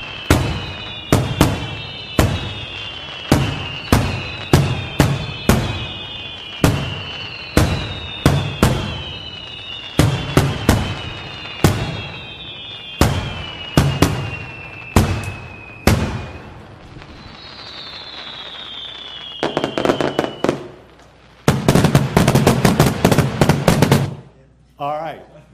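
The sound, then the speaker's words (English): A rapid string of loud fireworks bursts, sharp cracks with whistling rockets rising between them, ending in a dense crackling barrage of pops near the end. “I think that most of us enjoy fireworks.”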